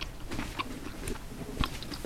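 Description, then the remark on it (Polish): Crunching and chewing of a raw radish, with sharp bites and wet mastication repeating irregularly, no talking. “Słyszę, jak chrupiesz rzodkiewkę.”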